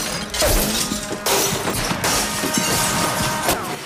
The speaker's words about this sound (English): He picks up the glass, but a bullet smashes it to smithereens in his hand.